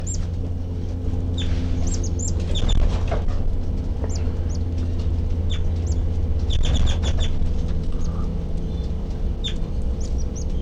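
Baby birds peep in the nest, recorded from right underneath it, a steady run of thin, high-pitched chirps coming in quick clusters over a constant low rumbling hum, with no voices.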